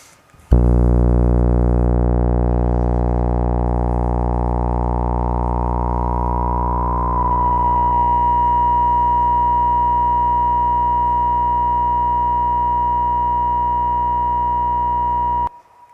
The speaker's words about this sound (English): So to show you what resonance sounds like, we'll crank up that resonance dial all the way to almost the top. So that'll turn the sine wave, or sorry, the sawtooth that we're outputting into basically a sine wave.